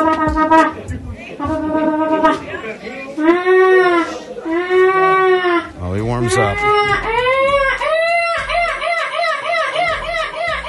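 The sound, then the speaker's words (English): A 10-year-old British boy from Chesterfield in Derbyshire lets out a string of loud, wavering, high-pitched squawks imitating a seagull's screech, the impression that won the 2024 EC Gull Screeching Contest, with rising and falling cries repeated in bursts; a brief spoken remark comes in near the start. “10-year-old British boy from Chesterfield in Derbyshire, took the marine bird imitation world by storm last year with his impression of a seagull.”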